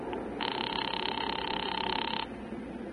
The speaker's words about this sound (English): I'll ring him. Oh, operator, hurry, will you? I'm ringing. Well, keep it up.